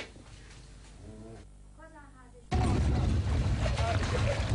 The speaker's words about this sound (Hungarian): Jelenleg a település felét mintegy 50 utcát veszélyeztet a belvíz. Szombat óta folyamatosan dolgoznak a szivattyúk, a veszélyeztetett lakóházakat pedig homokzsákokkal védik.